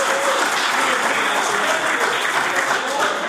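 A crowd applauds steadily for about three seconds, a dense, even wash of many hands clapping at a constant loud level, with no voices standing out.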